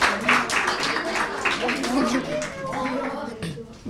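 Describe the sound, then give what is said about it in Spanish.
An audience claps for a correct quiz answer in a dense, steady burst lasting several seconds, with voices calling out and chattering over the applause. “Muy bien, correcto. Un aplauso, va.”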